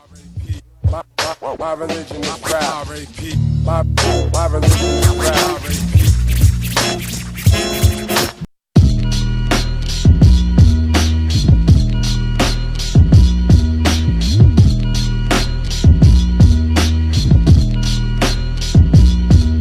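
A hip-hop track plays loudly, with a deep bassline and a steady, punchy drum beat that drops out briefly partway through before kicking back in.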